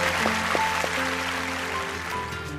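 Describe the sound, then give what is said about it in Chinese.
A steady wash of audience applause thanking a speaker at the end of his talk about restoring the Jiankou Great Wall, dense and even in loudness, with soft sustained musical tones running underneath; no one speaks. “再次掌声感谢您。”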